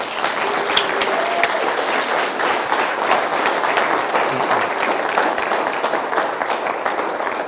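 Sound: applause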